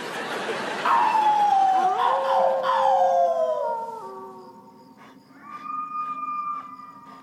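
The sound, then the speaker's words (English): A voice imitates a dog's howl: long, wavering tones slide downward, several overlapping pitches blending, loud at first, then a quieter, steadier howl rises again toward the end. “I'm howling. What does it look like I'm doing?”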